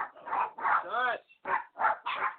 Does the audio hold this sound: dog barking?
yes